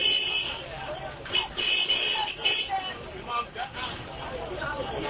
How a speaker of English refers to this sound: An enormous human traffic jam clogged Monrovia's new bridge on Friday, with tens of thousands of people shoving their way toward both ends of the bridge.